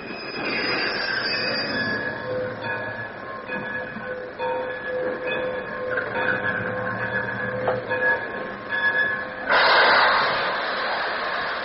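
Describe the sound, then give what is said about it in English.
A steam dummy train on a steam dummy line in Wichita rolls in with a steady clattering rumble and sustained tonal squeals from the wheels, ending in a louder burst of hissing noise near the end. “The next step from mule cars was the inauguration of the steam dummy line. Here comes the dummy!”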